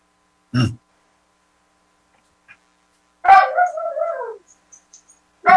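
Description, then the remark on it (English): A dog vocalizes: a short sharp yelp, then a drawn-out whining call that slides downward in pitch, followed by another brief sound, with quiet pauses between and no talking. “The dog has the answer.”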